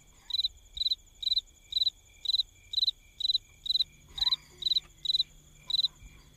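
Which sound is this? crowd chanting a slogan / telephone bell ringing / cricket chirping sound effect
cricket chirping sound effect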